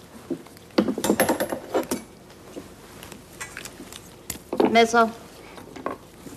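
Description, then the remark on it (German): Metal surgical instruments clink and rattle during a surgical operation, a cluster of bright taps early on, scattered single clinks, then a louder ringing jangle toward the end. “Sie sind Augenzeuge eines chirurgischen Eingriffs,”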